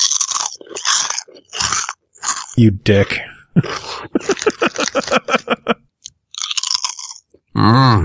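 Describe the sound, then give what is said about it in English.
Loud, sharp crunching of Tim's Cascade Honey Barbecue kettle-cooked potato chips being chewed, a rapid run of brittle bites in bursts, with a brief spoken remark in between. “What you eating? Tim's Cascade Honey Barbecue Kettle Cooked Chips.”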